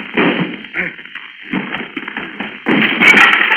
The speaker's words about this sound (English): Stand back so I can crash down this door.